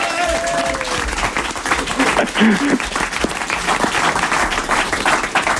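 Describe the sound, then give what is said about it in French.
A crowd applauds steadily throughout, dense clapping filling the whole stretch at a fairly loud, even level, with a few brief voices and cheers poking through. “on t'applaudit.”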